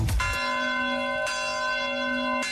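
An automatic church bell strikes the hour, tolling three times at a slow, steady pace, each strike ringing out loudly and its resonant hum lingering until the next. No voices are heard.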